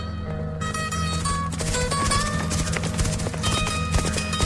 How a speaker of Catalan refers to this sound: Els sorolls dels galops augmentaven